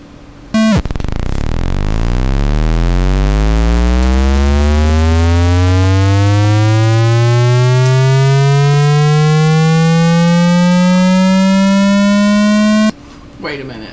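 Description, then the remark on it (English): A loud racing car engine revs continuously upward in first gear for about twelve seconds, its buzzing pitch climbing steadily without any gear change, then cuts off abruptly as the engine blows up. No one speaks. “It's racing cars vibrato.”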